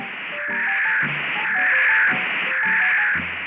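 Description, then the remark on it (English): Harsh static from a radio receiver used to track a fox in the dark hisses steadily and swells louder into a dense roar, with faint tonal warbles beneath the noise. No voices are heard. “Then the static came to a roar.”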